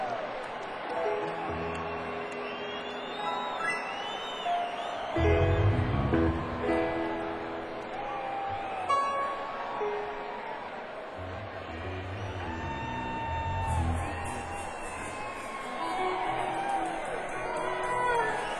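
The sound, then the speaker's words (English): A crowd cheers and whoops continuously on New Year's Eve, with many overlapping shouts and rising yells, swelling in bursts around the middle and staying fairly loud throughout. “Good looking crowd out there.”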